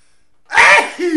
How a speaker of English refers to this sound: I have to sneeze.